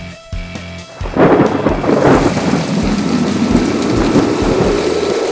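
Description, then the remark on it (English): A loud thunderstorm: after a brief quieter moment, a heavy crack and rumble of thunder breaks in, followed by steady, dense rain pouring down with continued low rumbling. “Or from the weather.”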